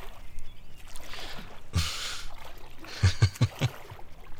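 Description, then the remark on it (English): Water trickles and sloshes as someone wades into cold water: one broad splash, then a quick run of four or five splashy steps, with no talking. “Come on, we're getting in the water.”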